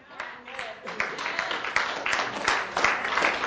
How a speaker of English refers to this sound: Don't clap unless you believe it, young people. It's true, man.